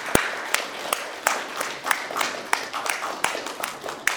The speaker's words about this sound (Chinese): 我们一起给他们一些掌声，好不好？